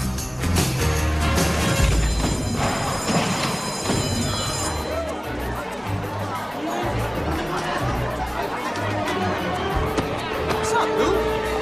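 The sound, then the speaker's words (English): Dense chatter of students crowding into a school hallway fills the space, a steady babble of many overlapping voices with occasional laughter, constant, over a low thumping background of music. “Mike is shoved through the crowd.”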